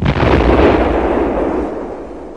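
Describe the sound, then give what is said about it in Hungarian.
A single loud explosion of a gasoline-air mixture ignited by a spark, a sudden deep whump that rumbles on and slowly fades over about two seconds, with no voices. “A benzin és a levegő keveréke szikra hatására robban.”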